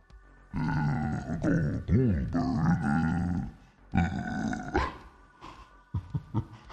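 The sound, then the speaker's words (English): A man voices a long, strained, guttural grunt imitating Goldberg, rising and wavering in pitch, then a second shorter grunt, ending in a few brief breathy bursts. No words are spoken. “I was trying to do like a grunt, like Goldberg would.”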